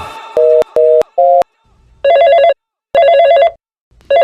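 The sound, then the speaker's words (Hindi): Three quick electronic beeps lead into a telephone ringing, its warbling trill coming in loud bursts separated by short pauses, with no voices; the call goes unanswered. “Phone भी नहीं उठा रही है।”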